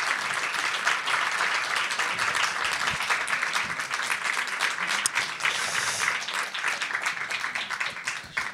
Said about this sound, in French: Et on est vraiment très heureux et puis très honoré d'accueillir Brigitte Lefèvre, qui est. Vous pouvez applaudir.